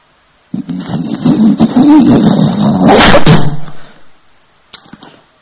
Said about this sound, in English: When there's thunder and lightning,